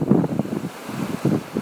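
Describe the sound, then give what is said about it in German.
Gusty wind buffets the microphone in uneven, rumbling bursts over a steady wash of surf from the sea at the water's edge of the Kniepsand beach near Wittdün, early in the morning, with no voices. “Aber wir haben das Meer gefunden, wie ihr hört.”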